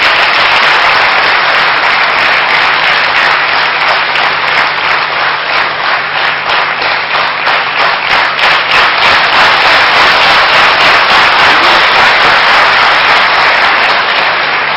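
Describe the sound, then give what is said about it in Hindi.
Loud, sustained applause from a large audience at Gyan Sarovar, awaiting a guest speaker, fills the whole stretch, a dense roar of many hands clapping with a faint rhythmic pulse emerging midway, no voices heard. “ज्ञान सरोवर की इस मस्त बहार में गुल खिले गुलजार में तालियों की गड़गड़ाहट पुनः हो जाए”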